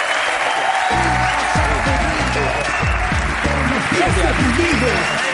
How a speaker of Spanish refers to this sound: Un gran aplauso